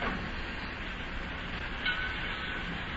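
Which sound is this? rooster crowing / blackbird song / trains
trains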